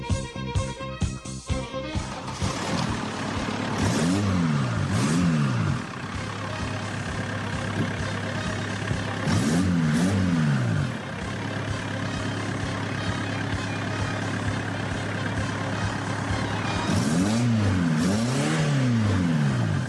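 An old Volkswagen Golf engine sputters to life, then idles steadily while being revved three times, each rev rising and falling in a smooth whine before settling back to idle.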